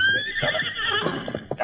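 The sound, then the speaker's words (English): A horse lets out a loud, shrill whinny that wavers and trembles for over a second, trailing off into a few short breathy snorts. No voices are heard. “Now, come on, get up there on the horse”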